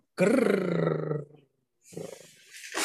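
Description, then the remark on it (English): A loud animal growl rumbles for just over a second, deep and throaty, then trails off before a rougher, breathier snarl with a hissing edge starts up. “Did you hear that? He just growled at us”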